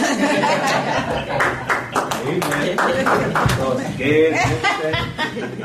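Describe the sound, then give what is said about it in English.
An audience claps steadily for several seconds, a dense, loud patter of many hands, with scattered chuckles and overlapping voices running underneath. “I'll clap for you, brother.”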